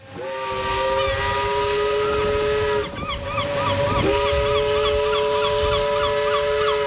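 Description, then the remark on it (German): The whistle of the steamship Astrida, which sailed from Antwerp via Madeira to Santos in June 1935, sounds a loud, long sustained chord, breaks off briefly, then blows again over steady hissing steam, with faint bird chirps in the background. “Mit dem Dampfschiff Astrida schipperte Riedel nicht von Hamburg, sondern von Antwerpen aus über Madeira nach Santos.”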